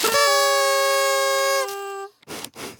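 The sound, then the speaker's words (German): A single loud air horn blast, tooted as a cheer for a teacher, holds a steady, brassy tone for about a second and a half, then cuts off, followed by a couple of soft breathy puffs. “Ich auch, Moment, ein Tröten für die Lehrkraft jetzt bitte.”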